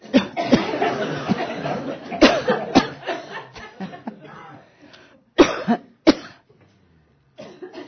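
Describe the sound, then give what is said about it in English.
A series of deliberate coughs and throat-clearing sounds during a guided fifth (throat) chakra exercise, fairly loud, coming in irregular bursts with short pauses and softer breathy rasping between them. “Here, let's do a little cough.”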